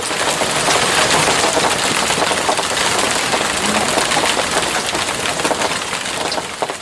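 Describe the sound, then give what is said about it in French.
Steady rain falls in a dense, continuous hiss with fine crackling drops, loud, holding an even level throughout with no voices. “Il pleut.”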